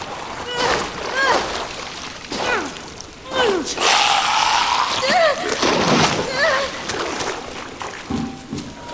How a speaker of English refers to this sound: Where am I? I gotta get out of this river.